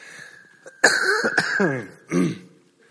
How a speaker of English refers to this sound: Sorry, one more cough coming.